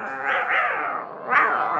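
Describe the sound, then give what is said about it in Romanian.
Several cats meow insistently for food, their drawn-out, overlapping cries fairly loud, rising in a fresh wail near the end. “Stați pisicuțelor că vă dau la toate de mâncare, îndată. Uf, că multe mai sunteți.”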